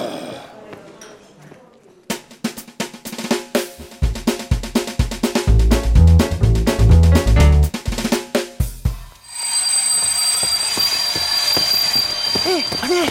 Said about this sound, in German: Dort auf dem Bahnsteig fährt ein Zug ab. Da fahren wir mit.